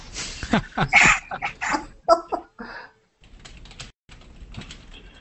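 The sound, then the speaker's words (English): A dog named Adler making a run of scuffling, snuffling noises with clattery scratches, loud at first and then quieter, with a short pause partway through. “You guys haven't met my dog yet, eh? You want to meet the dog?”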